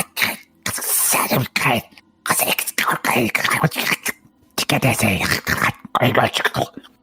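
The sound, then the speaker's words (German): A voice imitates hissing, whispery voices: a string of loud, breathy, sibilant bursts with short pauses between them, roughly eight in a row, forming no clear words. “Also als ihr quasi in diesen Raum reinhört, dass eine Tür noch geschlossen ist, weil es sind wirklich so Zischlaute, also die ungefähr so klingen.”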